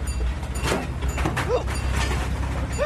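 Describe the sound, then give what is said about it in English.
A big crane truck with a newly fixed clutch runs steadily, its deep engine rumble continuous, with occasional short mechanical squeaks and creaks rising above the drone. “Ah, oh, for such a big truck, it makes a sweet little noise.”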